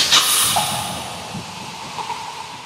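A short, sharp pop opens a Coca-Cola bottle, followed by a steady bright fizz of carbonation that slowly fades over a couple of seconds, with no voices.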